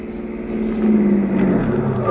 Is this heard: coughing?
no